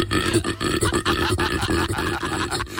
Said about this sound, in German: Auch ganz groß, ein Koala. Wie die aussehen, das wissen wir, das ist klar, aber wisst ihr auch, dass die sich so anhören?